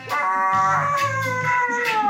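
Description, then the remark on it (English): A dog howls along to music in one long, wavering, high-pitched note with a few breaks, loud, while low steady musical tones hum faintly underneath. “when you hear a dog do that, you remember, you really want to know, is the dog expressing joy, or is that actually a pain reflex? But I think it's probably the dog liking it.”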